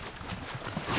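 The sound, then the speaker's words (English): A soft, breathy whoosh from a video game swells up near the end of the second: a quick airy dash sound as the character double-jumps after stepping in special water, over a steady hiss of background noise, with no one speaking. “And I stepped in one of the special waters, where if I jump, I get a little dash effect.”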